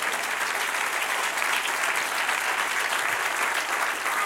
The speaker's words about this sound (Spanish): Dan un aplauso, Señor.